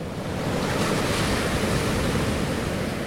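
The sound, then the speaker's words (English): A loud, continuous roar of Pacific Ocean surf with big whitecaps crashing onto the shore of a remote stretch of the Washington State coast, sea stacks behind, steady, with a gusty, salty wind rushing across the microphone and no voices. “Big whitecaps crashing in and sea stacks behind.”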